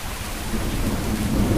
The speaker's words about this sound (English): He plays 4 different sounds, all at the same average decibel level, but points out they're widely different in terms of annoyance. He starts with rain and thunder.